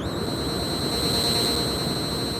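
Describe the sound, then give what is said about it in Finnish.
A wrist device's warning alarm for rising radioactivity in the air sounds as a steady, continuous high-pitched electronic tone, held unbroken over a low rumbling background noise. “mikä ääni tuo? Se tulee ranteestasi. Se on varoitus. Ilman radioaktiivisuus lisääntyy.”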